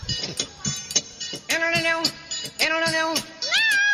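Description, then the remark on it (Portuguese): A cat meows three times in a row, drawn-out and fairly loud, the last one rising in pitch, over a busy background of clicks and music-like sounds. “Dá o stop, meu gatinho, agora.”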